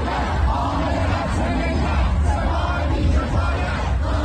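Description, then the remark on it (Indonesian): A crowd of protesters shouting together outside a university in Tehran, Iran, a dense, continuous roar of yelling voices with rhythmic surges, loud throughout. “Ternyata musuh kami ada di sini, teriaknya di luar sebuah universitas di Teheran.”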